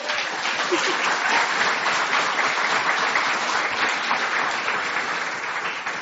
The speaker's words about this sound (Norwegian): Det synes jeg faktisk fortjener en applaus.